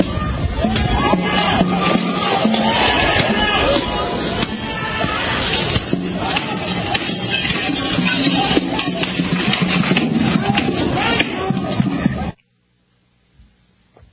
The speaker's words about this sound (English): Yeah, you can hear people smashing windows, banging drums, carrying on.